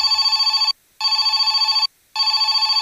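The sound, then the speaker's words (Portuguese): A telephone on a hook rings in the Camargo family home in three loud, buzzing bursts separated by short silences, its bright bell tone trilling rapidly throughout each ring, with no voices present. “O Paulo arranca o telefone do gancho e escuta do outro lado da linha.”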